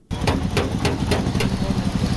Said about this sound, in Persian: صدای چکش های پسر 14 ساله است که موتر را در ترمیمگاه محلی در شهر بامیان مرمت می کند.